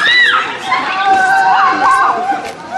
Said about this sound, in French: Des cris de joie par-ci et là.